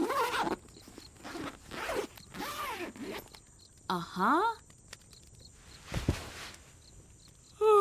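A sleeping bag zipper is pulled up in several quick, rasping strokes, fairly loud, with soft rustling of fabric between pulls.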